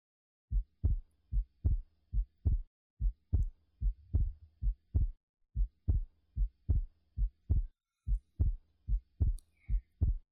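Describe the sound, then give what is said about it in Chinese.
A muffled heartbeat, the speaker's own as the listener rests against her chest, thumps in steady lub-dub pairs at a fairly quick pace, low and soft, with nothing else audible around it. “那么，能听到我的心跳声吗？”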